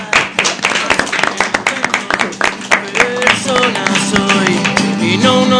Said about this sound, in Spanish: ¡Un aplauso!